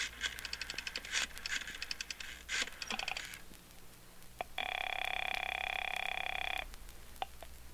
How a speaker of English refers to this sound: And it's going to mean a great deal more, I believe, after I make a long-distance phone call.